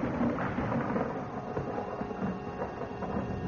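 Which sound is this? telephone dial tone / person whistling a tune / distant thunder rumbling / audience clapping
distant thunder rumbling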